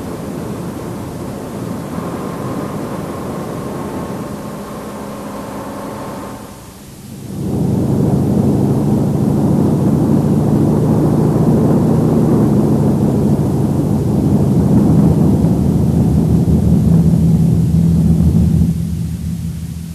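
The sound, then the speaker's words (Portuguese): The propeller engines of a German Junkers Ju-52 transport plane drone steadily with a deep, rumbling hum that swells louder after a brief dip, with no voices present. “O JU-52 não apenas transportou novas tropas e suprimentos para as múltiplas frentes alemães, mas também funcionou como ambulância aérea, socorrendo”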